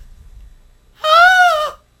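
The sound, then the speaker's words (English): A person's voice imitates a scream: one loud, wavering, strained cry lasting under a second, with a quavering, bleat-like tone, rising out of near silence and then cutting off. “Can you demonstrate the type of scream that it was? It was like a...”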